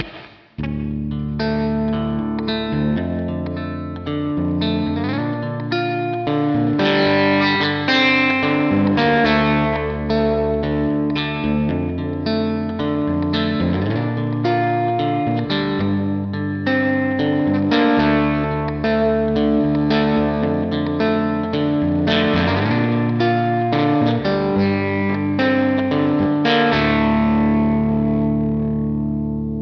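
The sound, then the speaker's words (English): An electric guitar with flatwound strings plays a steady, sustained chord-based passage through a Princeton amp model with spring reverb in Helix Native, full and continuous for about half a minute, with no talking and a ringing decay at the end. “I geared this one up with, I think it was a Princeton on this one, and a similar everything else. The Spring Reverb, I think, sounds the best on Helix, but let's give it a listen.”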